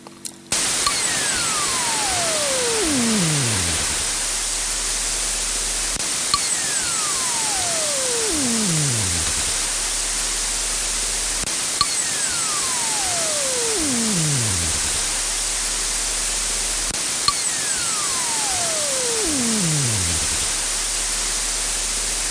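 A 'quantum whistle' recorded by University of California, Berkeley physicists from superfluid helium-4 flowing through apertures: four whistling tones, each gliding steadily from high pitch down to a low rumble over a few seconds, repeat at even intervals over a constant loud hiss of static.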